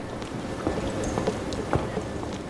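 Steady footsteps tap across a hard floor at an unhurried walking pace, each step ringing briefly in an empty, quiet museum hall beneath the Sistine Chapel in Rome, with a faint hum underneath.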